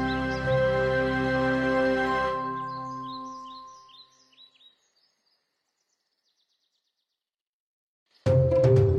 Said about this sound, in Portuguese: Aqueles que ouviram o seu som dizem que o pássaro dos mil cantos pode perfeitamente imitar o som dos pássaros mais comuns, como o tucano. Também o contagioso riso da cuca-burra.